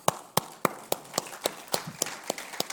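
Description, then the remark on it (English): A single person clapping at a steady, even pace, about ten sharp claps in a row with no voices. “I'm clapping for that because I love forgiveness.”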